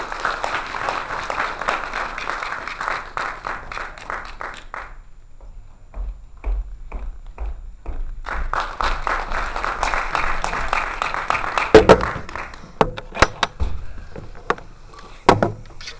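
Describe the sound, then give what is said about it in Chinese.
An audience applauds warmly to welcome a kuaiban master giving a lecture on the artistic style of Li-school kuaiban, dense clapping that fades out briefly, then swells again before tapering into scattered claps and a few thumps. No one speaks. “今天呢，李老师带给我们的讲座题目是李派快板的艺术风格，让我们以热烈的掌声欢迎李少杰老师为我们做讲座。”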